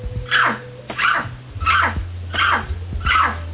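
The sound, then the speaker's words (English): A person imitates a big dog barking, letting out five loud, evenly spaced woofs in a steady rhythm, with no other talking. “Bark like a dog.”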